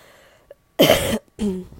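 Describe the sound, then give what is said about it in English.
Two harsh coughs in quick succession from a person who smokes a vape, the first loud and raspy, the second slightly shorter and more throaty, with brief silence between them. “You hear that cough? That's why I need to stop smoking that vape.”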